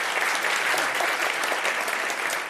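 A crowd applauds steadily, a dense, even wash of many hands clapping at a constant moderate loudness with no voices on top.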